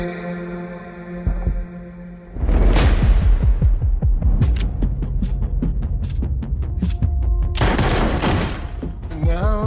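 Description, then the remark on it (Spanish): A sustained low tonal hum gives way to a loud, dense stretch of rapid sharp impacts and bursts, like repeated gunfire over a booming soundtrack, with a few voices mixed in, from the trailer for the film The Accountant 2 (El Contable 2), starring Ben Affleck and Jon Bernthal. “Venga, pues acción y tiros, peleas incluso a cascoporro, como diría aquel.”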